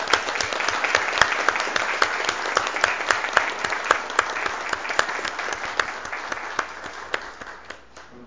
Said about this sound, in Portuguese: O projeto está aprovado por unanimidade. Uma salva de palmas, esse pessoal.